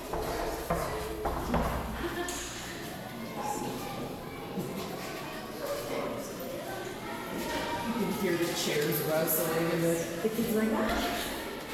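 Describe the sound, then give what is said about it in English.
Chairs scrape and bump while many children's voices chatter and call out together, a lively, continuous clamor with scattered knocks throughout. “You can hear the chairs rustling and the kids like, ah.”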